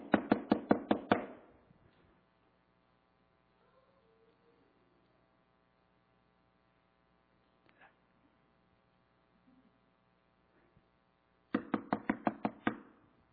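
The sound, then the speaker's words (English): A quick series of loud, sharp knocks on a door, Naaman knocking at the house of the man of God, then a long stretch of quiet with a low steady hum, before another rapid burst of knocking near the end. “And Naaman knocks.”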